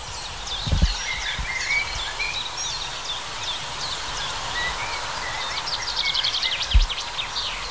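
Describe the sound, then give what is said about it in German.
Male blackbirds sing during the breeding season in a busy outdoor chorus, their phrases overlapping with a steady wash of other chirping birds and a couple of soft low thumps. “Ja, sie hört sich jetzt die Amselböcke an und fragt sich, wer soll's sein in dieser Brutsaison?”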